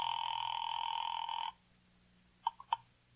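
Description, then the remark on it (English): A telephone rings with a long, steady electronic trill that cuts off after about a second and a half, followed by a few short, quieter chirps near the end. “So I limped as far as the phone booth on the corner.”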